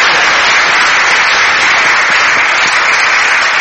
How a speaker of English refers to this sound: So we've been really busy out the back. They've done brilliant. I think they deserve a round of applause. They've done brilliant. Brilliant.